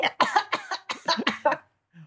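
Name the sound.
throat clearing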